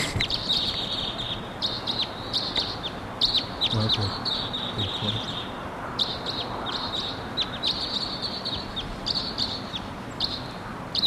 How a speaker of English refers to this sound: Wild Crossbill coming in at 7:03.